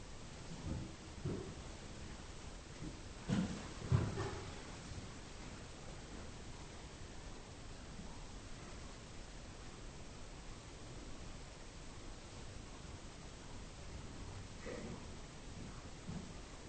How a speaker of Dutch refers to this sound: Ben de stilte van de regen. Ben de regen.